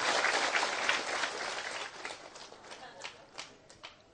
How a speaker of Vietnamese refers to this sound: Xin quý vị dành được tràng pháo tay.